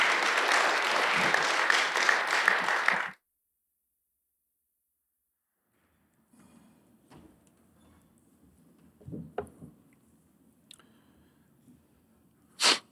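An audience claps loudly and steadily for about three seconds to welcome a pastor up to share God's word, then the applause cuts off into silence, followed by faint shuffling and a few soft clicks and knocks.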